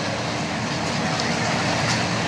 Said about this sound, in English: So I'm going to stop it here because at one point the train starts moving with two people on top of that thing.